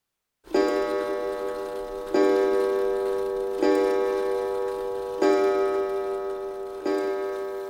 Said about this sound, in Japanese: 宿場の柱時計が十時を打った。